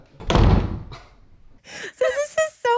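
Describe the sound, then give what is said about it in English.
A door bangs shut with one loud, heavy thud, and after a short pause someone starts talking. The door stands for a man walking out. “So you probably might be a little bit lost, but he's walking in out of the door, and the door is representing him going, or he's acting like he's a girl going into her Instagram comments.”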